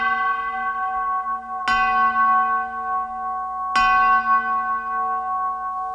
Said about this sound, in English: So every time I heard ding, ding, ding, bells will be ringing.